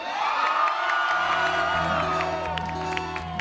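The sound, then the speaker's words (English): A loud crowd screams and cheers continuously, many high voices whooping and shouting together, with a bright, dense roar that holds steady for a few seconds. “Are you having a good time? Hell yeah! My name is …. And you better scream!”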